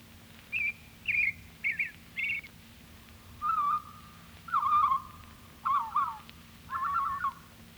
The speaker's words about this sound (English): Robin.